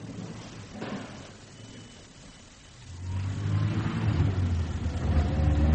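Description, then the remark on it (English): A car engine starts up with a quiet rumble for a few seconds, then revs into a louder, steady growl that builds toward the end. No one speaks. “I have a car.”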